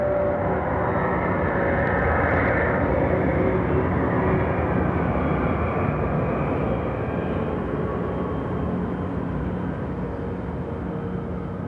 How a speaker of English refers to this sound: The first thing I ever heard were church bells. And immediately after that, a plane, and then soon probably just the roar of wind.